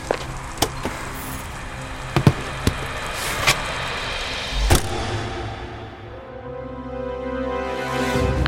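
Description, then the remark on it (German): An old police patrol car drives through Gotha, passing Friedenstein Palace, with a steady, rattling engine rumble, punctuated by a few sharp knocks and clicks; the noise dips briefly, then swells again near the end. No one speaks. “Zur gleichen Zeit fährt ein Polizeistreifenwagen durch Gotha und kommt auch am Schloss Friedenstein vorbei.”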